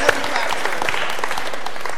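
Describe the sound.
An audience applauds in a large room, a dense, steady wash of many hands clapping at once, moderately loud and continuous for the whole stretch, with a few murmured voices mixed in.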